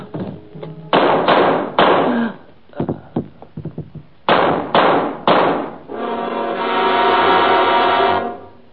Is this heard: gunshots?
yes